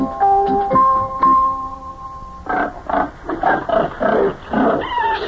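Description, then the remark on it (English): Pigs, including baby pigs, grunting in a pen on a farm in Ohio, opening with a few high, drawn-out squeals, then a rapid series of rough, throaty grunts and snorts in uneven bursts, fairly loud, with no voices. “Look at all the baby pigs in there.”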